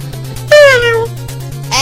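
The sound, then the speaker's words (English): A voice imitates a cat's meow: one drawn-out, downward-sliding cry, then a second meow starting just as it ends, both fairly loud over a steady low hum. “He sounds like a cat.”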